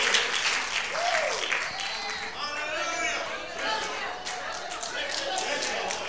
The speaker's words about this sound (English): Now clap those hands, those same hands. Come on, those same hands, those scarred hands, those calloused hands, those knuckles. Clap those hands and give him the glory.